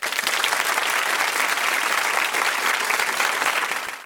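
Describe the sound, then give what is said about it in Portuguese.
A large crowd claps and cheers in a loud, dense, continuous wash of applause that holds steady for about four seconds, then tapers slightly at the very end. “Agora é a hora que você coloca um... De fato. Torcida e aplausos.”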